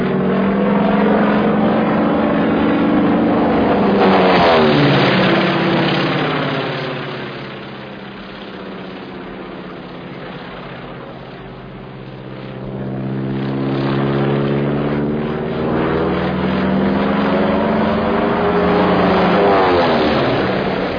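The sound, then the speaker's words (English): A propeller airplane roars overhead, its droning engine note bending downward as it passes, then swelling again as it circles back, loud and steady throughout with no voices. “Every time he goes up, he files my name as a passenger.”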